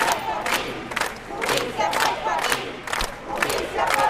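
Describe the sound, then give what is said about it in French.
A crowd of several thousand people at a street protest chants in rhythmic unison at the corner of Juan de Rusto and Alverdi avenues in northern Rosario. Loud surges of voices repeat roughly every half second, forming a dense, continuous roar with no individual speaker standing out. “plusieurs milliers de personnes sont rassemblées à l'angle des avenues Juan de Rusto et Alverdi, dans le nord de la ville”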